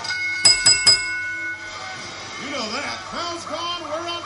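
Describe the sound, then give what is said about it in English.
A wrestling match bell rings three times in quick succession at the start of a tag-team bout, sharp and loud with a lingering metallic tone, followed by voices talking over a noisy background. “Bell's gone.”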